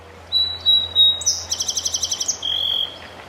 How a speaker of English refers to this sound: That's a song sparrow, and maybe you can hear the joggers passing by as they keep as much distance as possible.